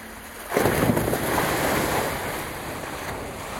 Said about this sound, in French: Là, on est en train, avec le bateau, d'avancer sur la mer à vitesse très réduite.